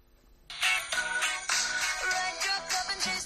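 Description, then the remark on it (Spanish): A phone ringtone plays a bright, busy song melody, starting abruptly after a brief quiet moment and continuing loudly with a steady rhythmic pulse, no voices over it. “Es una canción con la que llevo un montón de tiempo.”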